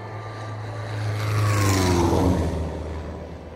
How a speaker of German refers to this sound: Die Gruppe hatte gerade beschlossen, nach dem anstrengenden Aufstieg eine Rast einzulegen, als das Geräusch eines Flugzeugmotors hörbar wurde.